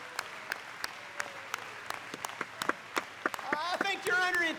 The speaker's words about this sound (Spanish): Vamos a darle un gran aplauso al Señor. ¡Vamos, apláudanle! ¡Gloria al Señor!